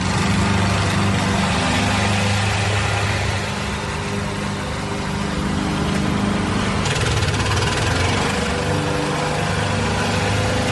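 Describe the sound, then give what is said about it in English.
A lawn mower engine drones steadily and loudly for the whole stretch, a constant rumbling hum with a rattly, buzzing edge and no voices. “That was a lawnmower.”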